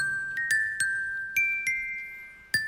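A tinkling toy glockenspiel plays a short, simple, famous film-score melody of about seven bright struck notes, each ringing on briefly before the next, clear with no voices.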